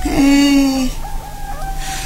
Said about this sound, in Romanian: Și ce mai cântă cocoșii pe la voi? Ia auzi, se întrec, parcă-i nuntă de cucoși.